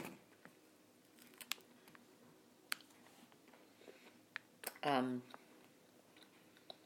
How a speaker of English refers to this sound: Excuse me chewing. I make really no apologies for it.